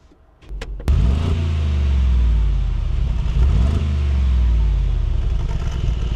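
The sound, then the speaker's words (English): A Mercedes G63 4x4 squared off-road truck engine starts with a few sharp clicks and settles into a deep, steady rumble, revving slightly with rising and falling harmonic sweeps, loud with no voices. “The 4x4 squared's engine sounds perfect.”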